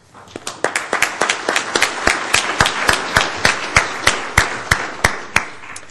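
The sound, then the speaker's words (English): An audience at an IEEE-organized conference applauds the VPPC organizing team steadily for several seconds, a dense patter of many hands with a few sharper, louder claps standing out in a fairly regular rhythm, holding at an even level throughout. “I think they do deserve a round of applause.”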